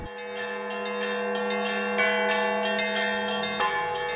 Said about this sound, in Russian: Колокольный звон, словно проповедь о вере и спасении, о мире и любви, разносится в шумном мегаполисе.